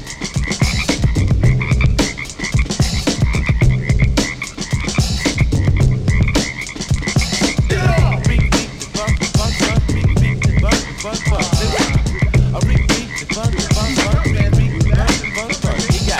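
A dense chorus of frogs croaking nonstop, many calls overlapping in a loud, rhythmic pulsing din that stays steady and close throughout, with no voices.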